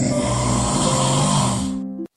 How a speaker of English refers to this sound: Some terrific snoring performances. Right there. Well done, people of Perth. Every snore I hear is as bad, if not worse, than the last.